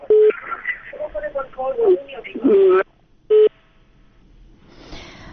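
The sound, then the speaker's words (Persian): A listener's phone call to a Radio Azadi call-in program cuts off: a narrow, tinny voice over the line is interrupted by steady beep tones, then drops abruptly to near silence, broken by one short beep and a faint hiss. “تماس تلفنی ما با این شنونده قطع شد.”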